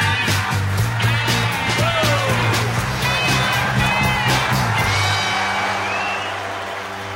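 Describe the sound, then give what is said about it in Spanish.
A concert audience applauds at the close of the show in a dense, steady wash of clapping, with scattered whistles and cheers over a low sustained hum, easing off slightly toward the end. “el público les aplaude.”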